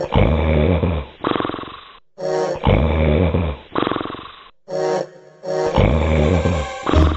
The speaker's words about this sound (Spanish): Cuando terminó el banquete, volvió a su habitación y enseguida se oyeron unos ronquidos que temblaba toda la casa.